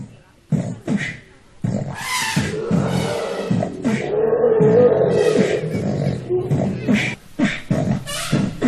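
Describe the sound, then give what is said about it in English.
Loud, roaring elephant calls blend with rhythmic beatboxing, the vocal percussion and animal bellows overlapping in a dense, continuous mix with short punchy bursts throughout. “It just kind of sounds like the beatboxer there is just mixing in some live animal sounds.”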